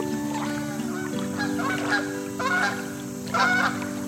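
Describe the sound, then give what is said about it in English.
Several geese honk at a lake on a sunny day, in short, nasal bursts, three or four calls spaced out over a steady low background hum, fairly loud. “And geese. Hey, geese sound kind of like cars, Dad.”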